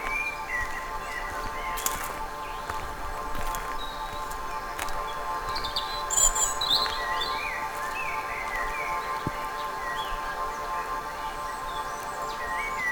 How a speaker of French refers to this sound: Nous quittons les champs et lentement redescendons en douceur. Vers la vallée. C'est une partie semi-ombragée. Riche. En chants d'oiseaux.